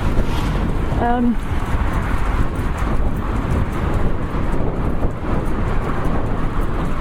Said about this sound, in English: Yeah, it's just starting to rain again